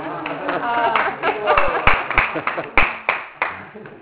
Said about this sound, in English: You are clapping? Yes, for him.